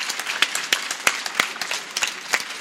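An audience at a book fair breaks into steady applause for author Uwe Herrmann after his live appearance, many hands clapping in a dense, crackling wash with a few sharper claps standing out, sustained throughout with no voices on top.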